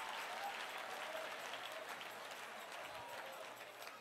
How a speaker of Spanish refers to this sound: Si ese es el aplauso